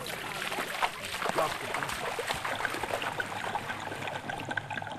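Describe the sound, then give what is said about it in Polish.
Underwater swimming captured on a GoPro action camera: a steady, muffled wash of water noise with bubbling, crackling bursts and faint clicks throughout, fairly even in loudness. “Ja mam GoPro, kamerkę. I to takie są dźwięki, wiesz.”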